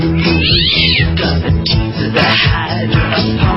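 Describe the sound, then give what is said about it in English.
A cat meows loudly and insistently, a run of drawn-out, wavering cries that bend up and down in pitch, filling the whole few seconds. “Watch your cats, everybody.”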